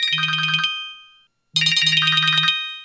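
A phone ringtone for an incoming call plays in two bursts with a short silent gap between them, a bright electronic melody of rapid repeating tones over a steady low hum, fairly loud, with no voices.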